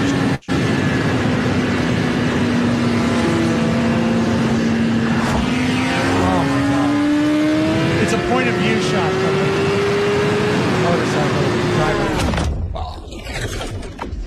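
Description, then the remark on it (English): A sport motorcycle engine roars on a road, its droning pitch climbing steadily as it accelerates over heavy wind rush, then abruptly drops away near the end. “And this is something I think every potential crotch rocket rider should take a look at.”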